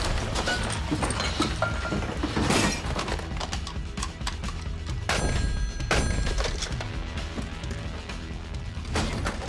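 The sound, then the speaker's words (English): Dishes, pots and pans clatter loudly and nonstop as Hopper searches through them in a kitchen, with irregular metallic bangs, crashes and ringing clanks piling over one another in a chaotic, almost drum-like rhythm. No voices. “Hopper's searching through the dishes, the pots and pans. You know, he's creating a ruckus.”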